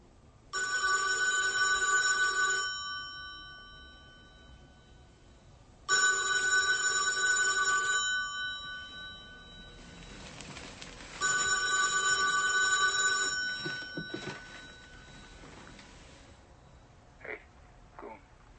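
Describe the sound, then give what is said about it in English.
A telephone rings in three long, steady bursts separated by short pauses, loud, followed by a few soft clicks and handling noises as the ringing stops. “Can I use the phone in the bedroom?”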